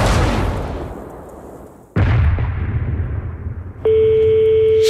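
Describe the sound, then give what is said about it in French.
Two loud cannon blasts from a ship's guns, fired at the Spanish, boom about two seconds apart, each trailing off in a long rumbling decay, before a steady electronic tone cuts in and holds to the end. “Tenez-vous prêts, les enfants, le moment est venu de leur adresser notre message d'adieu. Attends, à tes canons.”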